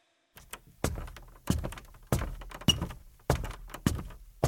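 A door being pushed, heard as a series of about seven heavy thuds at a steady pace, loud, with a faint rattle after each knock and no voices.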